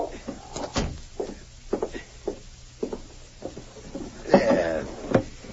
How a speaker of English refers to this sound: I'm sorry I didn't hear you knock.